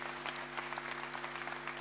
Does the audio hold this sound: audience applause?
yes